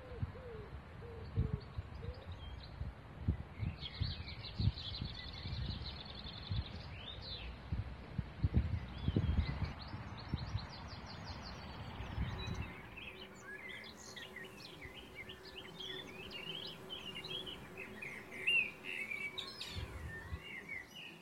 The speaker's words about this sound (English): I hope you enjoyed the sounds of the birds, which captured a moment in time like no other, May 2020.